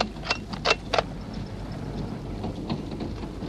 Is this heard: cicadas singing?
no